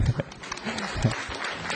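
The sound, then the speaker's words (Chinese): An audience claps together in a dense, steady patter of many hands, a brief burst of applause that stays fairly even in loudness throughout. “好，帮助别人，来掌声鼓励。”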